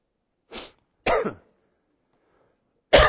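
Someone with a frog in their throat gives three loud coughs, one short bark, then a rougher throat-clearing hack, a pause of silence, and another harsh cough at the end. No talking.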